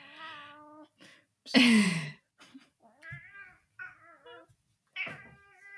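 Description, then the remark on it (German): An agitated black male cat yowls and meows several times while attacking a person, with harmonic wails and one loud, harsh, growling cry in the middle; brief pauses separate the calls, and no talking is heard. “Ich sehe hier nur einen schwarzen, wilden Kater, der versucht, Melanie möglichst direkt die Nase abzubeißen”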